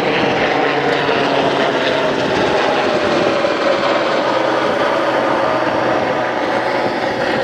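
A sea rescue helicopter flies over as the Lough Riordan ferry comes in: a loud, steady drone fills the air overhead, a continuous engine and rotor roar holding constant throughout with no break or fade, dominant.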